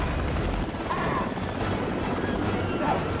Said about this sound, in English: There's even a guest appearance by the world's largest helicopter, the 25-ton behemoth known as Miss Belarus.